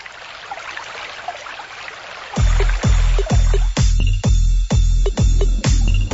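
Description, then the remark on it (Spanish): Hissy running water gives way to a series of about eight deep, regularly spaced whooshing pulses with strong low rumble, like muffled underwater bubbling surges, loud with no voices. “Bueno, ahora ya que estamos en las profundidades del mar, bueno, del mar no debería ser. Mejor de una piscina, ¿no?”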